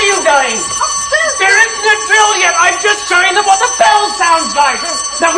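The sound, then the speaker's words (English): Fire alarm bells ring continuously throughout for a practice drill with no actual fire, a steady metallic clamor, while several excited voices talk and call out loudly over it. “It's fire. It's not fire. It's only bells.”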